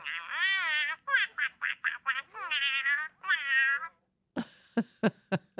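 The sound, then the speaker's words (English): A robotic toy duck is switched on and gives a run of warbling, electronic-sounding quacks, then after a short pause makes a series of sharp mechanical clicks and taps. No one speaks. “Turn this puppy on. I guess it's a duck.”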